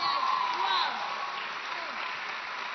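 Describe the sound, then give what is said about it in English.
A crowd claps for Jesus, steadily in a dense, continuous patter, with scattered voices and cheers mixed in; the applause is loudest in the first second, then holds at an even level. “Are you going to clap for Jesus?”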